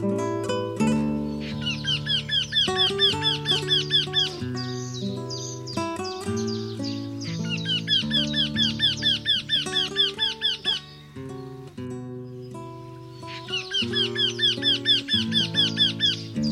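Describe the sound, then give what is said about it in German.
A Eurasian wryneck gives three bursts of rapid, repeated high nasal notes, each series running a couple of seconds, over a steady low tonal background. No one speaks. “Das war der Wendehals.”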